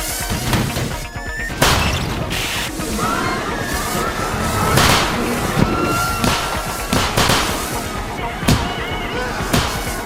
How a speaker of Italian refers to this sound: That little bang is enough to penetrate the skull and destroy the contents.